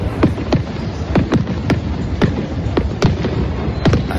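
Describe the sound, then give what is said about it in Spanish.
Fireworks at the close of the Seville Fair in Seville, Spain, burst in a rapid, irregular series of sharp cracks and booms, about a dozen in four seconds, over a steady rumbling wash of crowd noise and further explosions. “El recinto del Real ha apagado sus luces este fin de semana hasta el año que viene y lo ha hecho bajo el sonido de los fuegos artificiales.”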